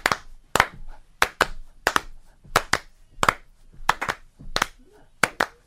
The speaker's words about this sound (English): Oh, man, you're not clapping along.